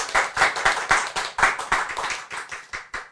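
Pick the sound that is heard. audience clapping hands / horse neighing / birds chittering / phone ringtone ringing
audience clapping hands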